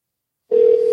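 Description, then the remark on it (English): After a moment of silence, a steady electronic telephone tone comes on abruptly and holds evenly at moderate loudness, the ringing tone of a call to a company's number about transaction security, heard through the line, with no voices. “Oh, it's ringing. It's actually ringing.”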